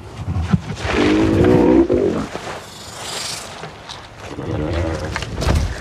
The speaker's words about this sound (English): So the groan of the male actually became, with some work and you know, adjustments and stuff, became the source, the basis for Drogon's purr with her. Mm-hmm. With Daenerys.